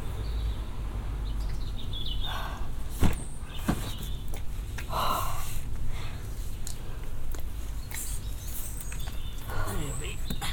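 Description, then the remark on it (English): A car door clunks open and shuts with a couple of sharp knocks as a woman is helped into the car on a hot morning, amid steady outdoor background noise, faint bird chirps and murmured voices. “Right, the door is directly in front of you, ma'am.”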